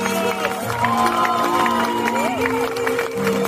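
A crowd claps and cheers in a steady, loud wash of noise for a few seconds, with sustained musical tones running underneath and some indistinct voices mixed in.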